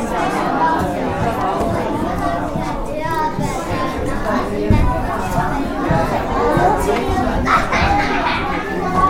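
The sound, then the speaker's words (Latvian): Toddlers play with colourful balls and chatter in a chamber hall after a show, their overlapping voices and squeals forming a steady, lively din, with occasional soft thumps rising briefly above the noise. “Kamēr mazuļi pēc izrādes kamerzālē vēl spēlējas ar krāsainajām bumbām”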